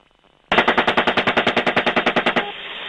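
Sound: machine gun fire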